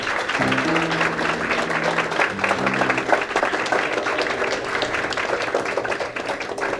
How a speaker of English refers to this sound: This I consider a great pleasure to be able to present this gentleman who I think is one of our great guitarists, and I think we ought to give him a great big round of applause.